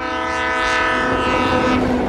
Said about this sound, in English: Uncle Hansa, listen, we've been on the slow train.